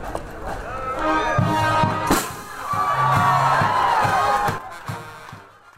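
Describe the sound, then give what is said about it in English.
After a ribbon cutting, a lively crowd excitedly pours into a new media center where students are working on deadline. Many overlapping voices murmur and chatter at moderate volume, with scattered footsteps and thumps as people move through the space, fading slightly at the end. “The crowd then excitedly poured into the new media center among students working on deadline.”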